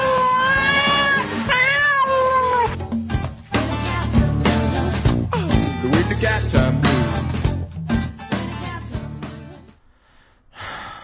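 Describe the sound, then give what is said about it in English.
A cat named Dingleberry meows and yowls loudly and insistently for several seconds, drawn-out wavering cries rising and falling, then trailing off into a few fainter sounds at the end. “And I know the cat loves it too.”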